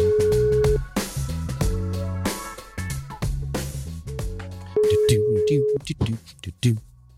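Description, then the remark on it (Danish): A steady telephone ringback tone sounds twice, each about a second long with a few seconds between, clearly audible over a busy music bed with drums and bass, as the show What to Watch calls a listener. “Hej Christian, det er What to Watch, der ringer.”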